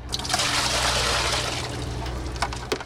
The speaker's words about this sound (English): McClellan dumps a bucket of water she's just pulled from the Lake Michigan Harbor in Milwaukee.